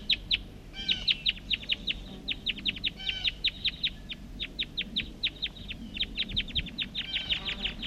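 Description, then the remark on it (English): Wild birds up in the trees call in a rapid, steady series of short, high chirps that repeat almost continuously, with a few overlapping voices and a low background rumble. “Recording, these are calls of the wild birds.”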